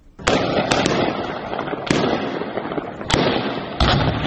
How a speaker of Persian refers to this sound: صداهای شلیک‌های متواتر گلوله از شهر زرنج مرکز ولایت نیمروز، جایی که گفته می‌شود صبح امروز گواه درگیری میان نیروهای امنیتی طالبان و اعضای شاخه خراسان گروه داعش بوده است.